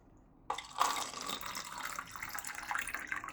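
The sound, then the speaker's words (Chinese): Water pours steadily into a glass, a bright splashing stream that begins abruptly after a brief quiet moment and runs continuously to the end, with no one talking. “老师你先坐着，我给你倒杯水。”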